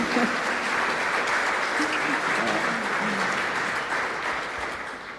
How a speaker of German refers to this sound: Applaus.